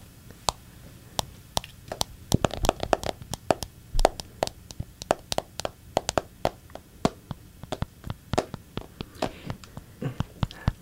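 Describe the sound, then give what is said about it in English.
Rapid, irregular tapping on a phone screen, made as an ASMR sound: dozens of sharp, light clicks in quick bursts, some louder than others, continuing steadily with no voices. “We can do like little phone tapping.”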